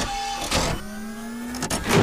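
A Matlock remote-controlled office door lock runs with a steady electric motor whine, broken by a few sharp mechanical clunks as the bolt shifts. No voices are heard.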